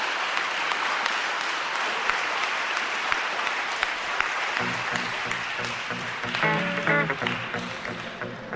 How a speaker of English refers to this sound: You can tell from the look on Edwin's face that the applause is satisfying and cathartic.